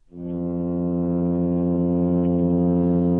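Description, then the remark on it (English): A male midshipman fish's loud, steady hum as it calls to a female: a low, droning buzz with rich overtones that rises within the first moment and then holds at an even pitch and volume, with no talking. “The male midshipman fish calls to the female of the species with a loud, steady humming, guiding her to a secluded nook under a rock where she can lay her eggs to be fertilized.”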